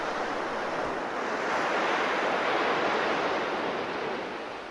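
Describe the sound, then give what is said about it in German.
Steady ocean surf washes onto the beach at Cannes, a broad continuous rushing roar that swells gently and eases toward the end, with no voices. “Im Liegestuhl am Strand mit Meeresrauschen im Hintergrund erhält so mancher Film noch einmal einen ganz neuen Flair.”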